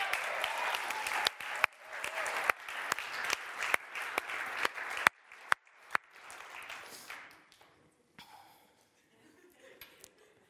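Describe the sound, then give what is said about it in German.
An audience applauds to welcome a youth leader to the front, dense, steady clapping punctuated by a few sharper claps, then the applause thins out and fades to a few scattered claps near the end. “Und klatsch ihn doch mal kurz nach vorne.”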